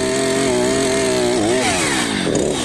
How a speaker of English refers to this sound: Barmy farmer Andy is on frame-cutting duty, and somewhat scarily, he's got hold of a chainsaw.